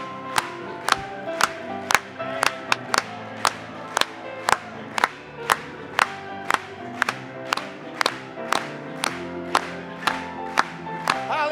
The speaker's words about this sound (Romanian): Hai să o aplaudăm Lui.